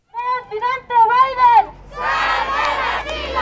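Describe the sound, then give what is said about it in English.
A group of asylum seekers and advocates protesting the border reopening at the downtown Nogales port of entry into the United States on a Monday morning chant loudly in unison with raised, pitched voices for about a second and a half, then the sound breaks into a dense wash of crowd shouting and babble. “As cars drove into the United States Monday morning through the downtown Nogales port of entry, a group of asylum seekers and advocates were protesting what struck them as an indefensible contradiction: the reopening of the border”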